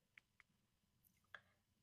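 A few sparse, irregular keyboard clicks tap out quietly against a low background hum, three light keystrokes spread over a couple of seconds with no one speaking.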